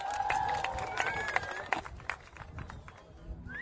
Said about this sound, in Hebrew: תנו לו מחיאות כפיים